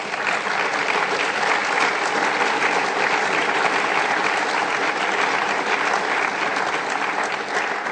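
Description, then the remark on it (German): Sustained audience applause fills the whole stretch, a dense steady wash of many hands clapping at constant loudness with no voices breaking through. “Und ja, das ist ein Applaus wirklich wert.”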